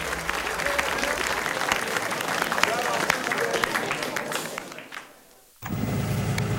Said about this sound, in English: holds his hands up and begins the applause. Gangster, cigarette in mouth, claps his hands.